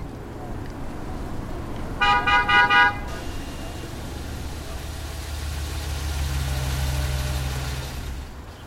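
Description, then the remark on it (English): A food truck engine idles in Durham with a steady low rumble, broken early by a quick burst of about four short horn toots; the engine swells a little louder toward the end. “And this special connection is mirrored in a certain type of car that can be seen more and more in Durham. The food truck.”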